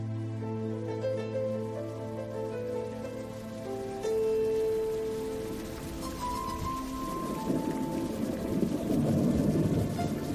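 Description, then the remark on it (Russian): Soft, steady patter of raindrops on leaves builds in the second half, blending with sustained musical tones that play throughout; no one speaks. “Обложили небо тучи грозовые и стучат по листьям капли дождевые.”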